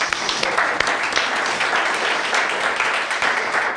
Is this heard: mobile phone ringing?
no